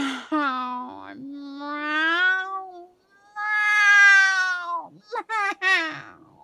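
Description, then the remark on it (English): A cat meows several times: long, drawn-out yowling cries that rise and fall, then a quick burst of shorter meows at the end. No one talks. “It's just bloody hell, being a cat's difficult. It's just so much catitude and just meow and meow and meow.”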